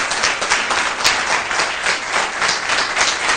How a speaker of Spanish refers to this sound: Un fuerte aplauso para ellos.